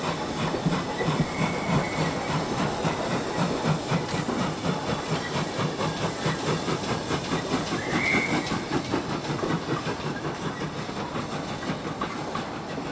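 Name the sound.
train running on rails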